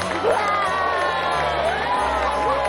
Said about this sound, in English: The crowd cheers.